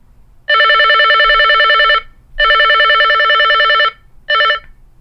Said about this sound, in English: Now this phone has three ringtones, and I think they're all a bit annoying. But well, I'll let you hear them. Ring one. Here's one.